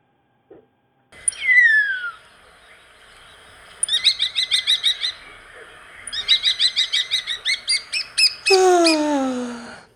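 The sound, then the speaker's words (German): A starling sings in a garden early in the morning before sunrise, mixing long descending whistles with bursts of rapid, rattling clicks and chatter, loud and unaccompanied by any voices. “Das ist ein Star. Der Star singt immer schon eine Viertelstunde, bevor die Sonne aufgeht.”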